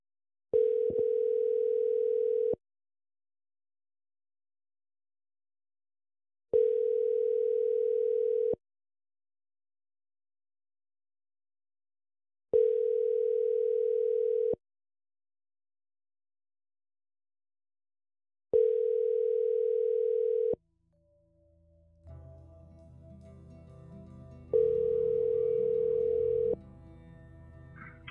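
An outgoing phone call rings through the earpiece: a steady electronic ringback tone repeats five times in even two-second bursts with long pauses, and a muffled, busier sound rises beneath the final ring. The call is to a pastor at Coram Deo who won a school board seat, around 6:20 in the morning.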